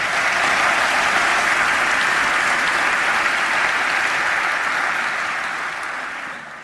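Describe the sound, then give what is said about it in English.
An audience breaks into sustained, loud applause for the speakers Chris and Dr. Maté, a dense wash of many hands clapping that holds steady for several seconds before beginning to taper off at the end. “Let's first of all hear it for Chris and Dr. Mate.”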